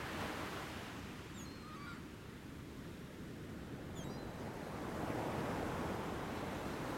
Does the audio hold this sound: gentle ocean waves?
yes